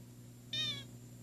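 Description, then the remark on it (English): A toy noisemaker lets out one short, high, squeaky meow lasting about a third of a second, loud, over a faint steady low hum, with no talking. “Well, I think this one is saying meow.”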